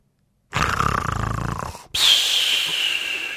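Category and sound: vocal imitation, voice imitating loud snoring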